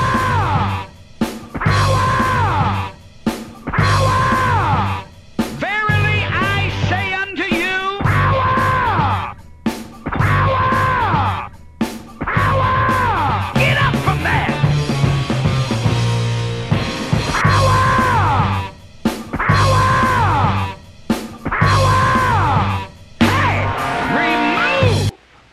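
A 1975 sound collage: an American evangelist's impassioned shouting is spliced over looped sampled rock guitar, chopped into repeating bursts with abrupt cuts and short gaps, loud and dense throughout, resembling proto-hip-hop.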